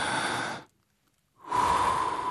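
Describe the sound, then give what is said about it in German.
Two airy breaths separated by a short silence; the second is a long, deep inhale with a faint whistling tone, a person demonstrating how a smoker draws on a cigarette. “Ja, und das machen wir 3 bis 4 Minuten, atmen wir im Grunde genommen, und wir atmen durch dieses kleine Röhrchen mit dem Gift drin.”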